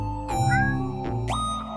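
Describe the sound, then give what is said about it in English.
A large cat meows, giving a drawn-out, fairly loud meow that slides into a second rising call, with no one talking. “A large kitty.”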